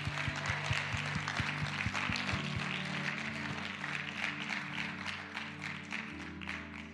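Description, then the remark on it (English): An audience gives a hand clap offering, clapping steadily and loudly for about seven seconds, a dense crackle of many hands over low sustained musical tones, with a few rhythmic thumps at the start. “Now let's give a hand clap offering.”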